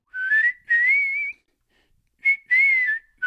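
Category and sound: human body sound, person whistling a song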